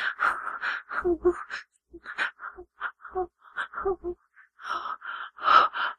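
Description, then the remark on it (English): Heavy, ragged breathing: a string of loud, breathy gasps and sighing exhales arriving in uneven bursts, with short pauses between them and no talking. “Your breathing is getting louder.”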